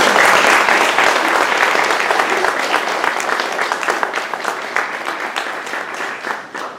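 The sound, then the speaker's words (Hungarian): A crowd applauds steadily with dense, rapid clapping that stays loud throughout and fades slightly toward the end, with no talking. “Én úgy gondolom, hogy egy tapsot megérdemelnek.”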